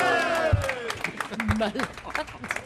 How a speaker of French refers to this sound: Applaudissements.